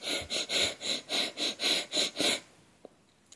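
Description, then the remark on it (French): Rapid, forceful breaths through the nose with the mouth closed, about nine quick rhythmic bursts in a steady pumping pattern as an instructor demonstrates a belly-pumping breathing exercise, fairly loud, then stopping abruptly into near silence. “Tu entends les bruits que je fais? C'est ce que tu cherches à reproduire avec ta respiration.”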